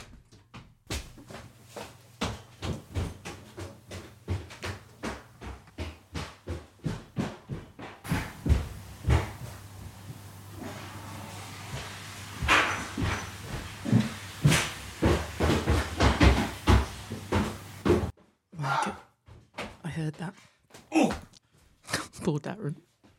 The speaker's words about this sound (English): I heard that. I heard the flush.